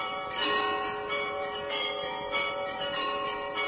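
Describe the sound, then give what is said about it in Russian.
Church bells rung by hand by a bell-ringer, a conservatory graduate, in a steady, rhythmic peal, repeated strikes every half second or so over a dense wash of lingering, overlapping tones, fairly loud with no voices. “Звон, который исполняет выпускник нашей консерватории Александр Долгов, тоже лауреат конкурса звонарей России.”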